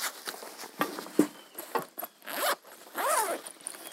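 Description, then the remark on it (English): A backpack brought up by a preacher during a sermon is unzipped in several quick, raspy bursts, followed by rustling and shuffling as the bag is opened and its contents, gifts such as holy water, are handled. No one speaks. “This is not typical of my preaching to bring a backpack up with me.”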